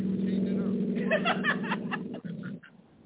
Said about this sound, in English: What the hell is this? Nigga need to turn his car off.